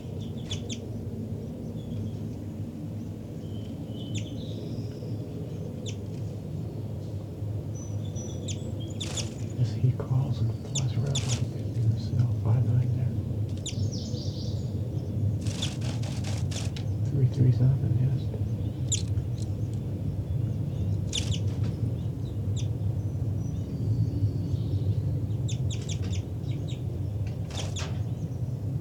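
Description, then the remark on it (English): Two birds, numbered 5-9 and 3-3, at a nest: one gives a few short, sharp calls and the other seems to answer, scattered irregularly over a steady low rumbling background. “That was 5-9-3-3 called a couple of times in response.”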